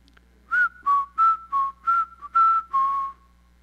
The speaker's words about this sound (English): So when she comes home from school, I'll whistle.